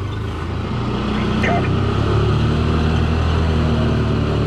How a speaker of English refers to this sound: A lifeguard drives up in a dune patrol car.